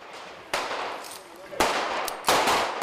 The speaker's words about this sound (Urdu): ترکی میں پولیس اور نامعلوم مسلح افراد کے درمیان فائرنگ کے تبادلے میں ایک اہم کرد وکیل ہلاک ہو گئے ہیں